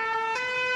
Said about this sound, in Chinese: 羊妈妈展示的是她的消防车。 消防车发出的声音是这样的。